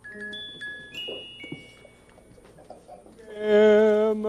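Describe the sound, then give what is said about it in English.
A pet bird, Emus polyglottus, being walked in the garden by King Friday, calls with a few thin whistled chirps, then lets out a louder, harsh squawking cry near the end. No one speaks. “Oh, I see, he's in the garden walking his bird.”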